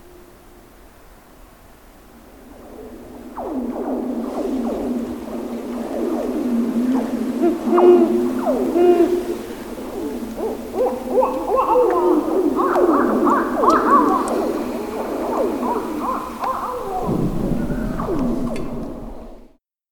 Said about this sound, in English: The winter soundscape is pretty silent compared to spring's cacophony, but if you're lucky, you'll hear owls, those denizens of the long night, singing during the winter months.